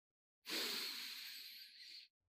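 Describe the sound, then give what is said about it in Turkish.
A single long inhale, a steady airy hiss with a slightly whistling edge that lasts about a second and a half before cutting off, with no voices. “Nefes al.”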